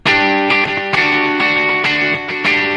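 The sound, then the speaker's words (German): A distorted, bright-toned instrument plays loud sustained notes through a simulated Echoplex tape delay with extra treble, its attacks repeating in steady echoes roughly every half second, with no voices present. “Ja, oder wir gehen mal auf ein Echoplex, das hat noch mehr Höhen.”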